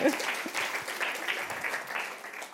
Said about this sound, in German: Jetzt kriegst du natürlich auch noch dein Geburtstagsgeschenk. So, da kann man auch noch mal klatschen, klar.